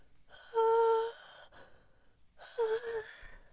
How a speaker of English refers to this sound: And a yawn.